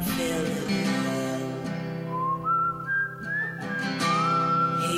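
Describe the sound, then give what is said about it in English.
A person whistles a wavering melody of rising and sliding notes over a steady musical backing, clear, with no talking. “The whistling.”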